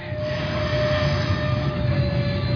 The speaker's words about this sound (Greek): Ας ξεκινούσε, μονάχα να ξεκινούσε. Το τρένο ξεκινάει.